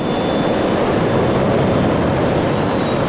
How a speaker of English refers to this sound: The jet lifts off. Its white body matches the fluffy clouds in the pale blue sky.